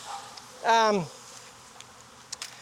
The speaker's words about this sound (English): look at these bees over here on this lemongrass oil. Look, they love that little vial in there.